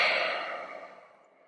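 A single long, breathy exhale of a person breathing loudly during a yoga class, picked up by the instructor's microphone, loud at first and gradually fading over a second and a half, like a heavy sigh with no talking.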